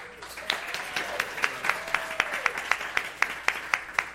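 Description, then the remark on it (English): A church audience claps along for graduates being honored at a service, in a steady, loud rhythm: sharp beats roughly three per second over a continuous wash of scattered applause, with faint voices underneath. “And then we have, go ahead, you can clap, yeah.”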